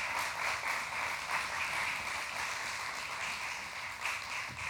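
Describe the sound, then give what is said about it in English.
A large church audience applauds steadily as guest speakers come up, a dense wash of many hands clapping at once that holds an even loudness for the whole few seconds, with no voices heard over it. “Give them a big hand clap as they come.”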